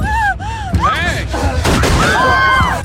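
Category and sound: impact, gunshot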